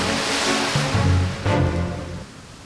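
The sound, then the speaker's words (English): Ocean waves crash steadily onto a sandy shore in a continuous, loud wash of surf, with a fuller surge of breaking water midway before it eases back. No voices. “Then, all at once, he dashed forward, leaping more of those giant leaps across the sand towards the crashing waves.”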